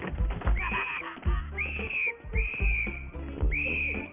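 A whistle is blown in four shrill, sharp, loud blasts about a second apart over a busy, rumbling background.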